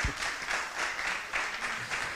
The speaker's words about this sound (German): Vielen Dank, gebt ihm mal wirklich einen warmen Applaus.